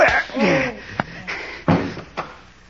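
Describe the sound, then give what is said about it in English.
Sharp, heavy punch impacts, the hardest one near the end, as a single punch knocks a man out, with a brief strained vocal grunt at the start and no speech. “Why, Pete, you knocked him out. With one punch.”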